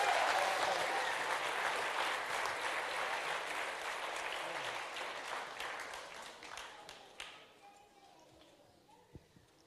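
An audience breaks into loud, dense applause for a baptism candidate about to be baptized, a steady wash of many hands clapping that holds for several seconds, then thins out and fades, leaving only a few scattered claps.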